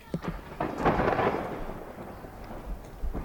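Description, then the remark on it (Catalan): A thunderstorm: a deep rumble of thunder swells and rolls over steady heavy rain, with a few sharper cracks at the start and near the end. “De sobte va caure molta pluja i un raig va il·luminar una televisió”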